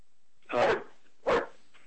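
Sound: dog barking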